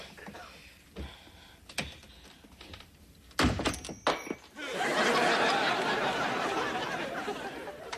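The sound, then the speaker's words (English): Several dull thuds and a cluster of sharp bangs as someone shoves and rattles a stuck, locked bedroom door with a baby inside, followed by a long swell of loud laughter from a crowd. “We've got to get the door open before Mom gets home.”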